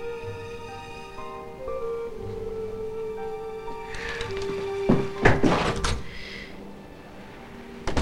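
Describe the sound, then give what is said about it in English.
A front door opens and shuts as someone heads out, with a couple of sharp thuds and a brief rattle around the middle, set against a steady tonal musical hum with no one speaking. “Nathan heaves a sigh and heads out the front door.”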